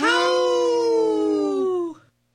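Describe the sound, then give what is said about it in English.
A single long wolf howl, loud and harmonic, holding a steady tone for about two seconds before gliding slightly downward and fading out, with a brief sharp sound at the very end. “Let's live and let howl.”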